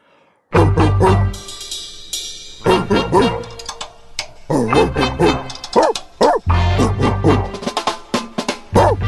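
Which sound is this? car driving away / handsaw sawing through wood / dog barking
dog barking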